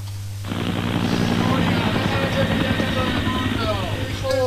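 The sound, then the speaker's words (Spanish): A helicopter starts up abruptly and keeps flying, its loud rotor thudding in a steady rapid pulse over a constant engine roar, with faint voices mixed in. “Cojamos el helicóptero.”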